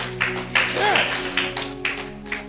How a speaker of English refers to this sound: Clap for them. They have sense.